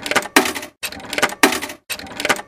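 Several coins clink and rattle down into a slot in quick, bright metallic bursts separated by brief pauses, fairly loud, with no talking.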